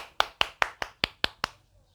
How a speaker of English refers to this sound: Very good. Now let us all clap together.